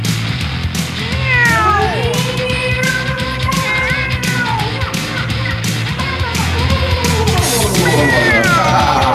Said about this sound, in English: meow with me.